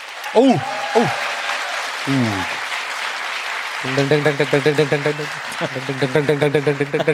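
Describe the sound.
An audience applauds to vote for a contestant's answer, clapping steadily throughout, with whoops and cheering voices rising above the clapping, and a rhythmic, pulsing chant of voices joining in over the second half.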